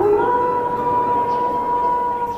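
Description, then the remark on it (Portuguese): A wolf's long, drawn-out howl holds a steady pitch without a break, sounding far off over a faint noisy backdrop, with no one talking. “O sangue vai trazer o lobo. Eu passo o cupcake, passo e devolvo pra ela. Obrigado, tá? Tu escuta ao longe um uivo.”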